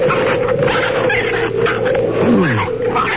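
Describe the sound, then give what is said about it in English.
An otter with its leg caught in a trap lets out a strained, whining cry that slides downward in pitch, over a steady, rough hiss of background noise. Nobody speaks. “For crying out loud, it's an otter.”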